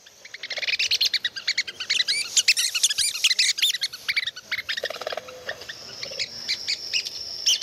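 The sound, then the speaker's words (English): Rapid, dense chorus of high-pitched red-cockaded woodpecker calls and chirps, a recorded aggressive territory call, bright and continuous, played back through a small handheld speaker with a slightly thin, tinny quality; no one speaks. “So this is the sound coming from your little handheld speaker there. Just a recording of red-cockaded woodpeckers.”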